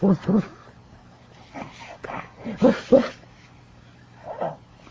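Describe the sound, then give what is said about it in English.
A puppy gives a handful of short, high yips and whimpers, coming in quick pairs, then trails off into a softer drawn-out whine near the end. “He's a puppy?”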